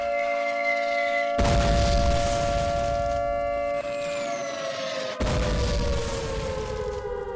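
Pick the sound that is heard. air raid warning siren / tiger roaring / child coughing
air raid warning siren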